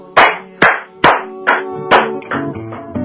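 Seven or eight sharp hand claps in a steady, unhurried rhythm, each loud and crisp with a short ring afterward, while soft musical tones come up underneath toward the end.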